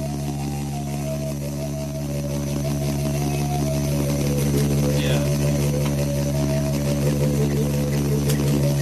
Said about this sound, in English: Cause actually, the beetle might be going, maybe the beetle, I think the beetle is going, and he's resonating it. Right. So the beetle is... The beetle's making noise, and his mouth is just a chamber. Resonating it, yeah, yeah.